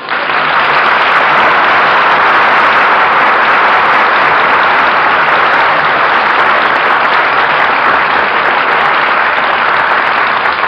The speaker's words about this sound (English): Well, what are you applauding for, Stu? That fella you were talking about.